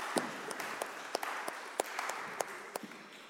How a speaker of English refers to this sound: Thank you so much to all of our actors. Should we give them a big round of applause?